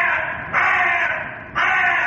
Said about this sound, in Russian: Ворона.